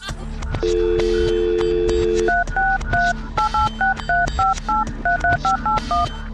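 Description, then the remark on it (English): A steady phone dial tone hums briefly, then gives way to a quick, uneven run of roughly fourteen touch-tone keypad beeps, each a short two-pitched chirp, fairly loud, as someone dials a phone call. “Pick up, mom, pick up.”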